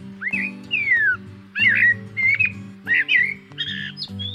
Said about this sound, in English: most certainly grew up hearing Eurasian blackbirds in their home of Liverpool. Eurasian blackbirds are common in the gardens and throughout the countryside in Great Britain.